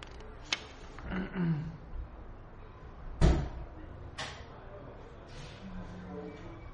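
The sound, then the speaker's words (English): A door is pressed shut from the top with a solid thud, preceded and followed by lighter knocks and clicks of the latch, with faint muffled voices in the background. “you know how to close it well? Press from the top. Press on the top of the door.”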